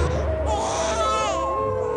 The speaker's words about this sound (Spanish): ¡Sigan el rastro del llanto de mi hijo! ¡Se escucha muy cerca!